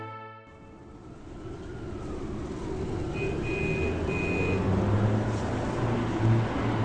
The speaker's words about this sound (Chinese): 3个月后，几辆满载着新兵的卡车驶入了营地。